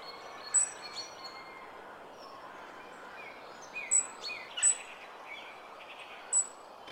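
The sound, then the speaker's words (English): Thin, high-pitched bird notes from a European robin come in short, scattered bursts over a steady outdoor hiss, the song fairly faint with pauses between phrases. “Of all the birds that inhabit our shores, there is only one that is intricately interwoven with Christmas. That's right, the bird known to everyone, the humble robin.”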